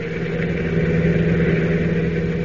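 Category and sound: vehicle, car engine running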